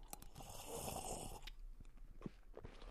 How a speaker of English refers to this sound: again, lose your manners, please. Have a good slurp.